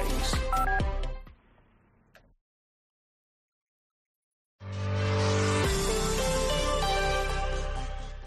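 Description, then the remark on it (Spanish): A short melodic phone ringtone plays a quick run of electronic notes and fades, then after a pause of silence, full, loud music swells in. “Una llamada de móvil, esa reunión eterna, recoger a los niños.”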